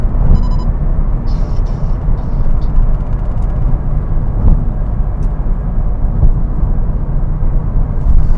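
A sports car engine roars steadily, a loud, continuous low rumble with road noise, as if heard from inside the vehicle while it accelerates through third and fourth gear into a corner, passing 59 to 60 miles an hour at 3,000 to 4,300 RPM.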